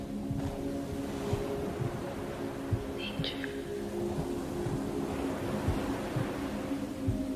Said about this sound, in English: Here at the beach on spring break, listen to the waves lapping at the beach.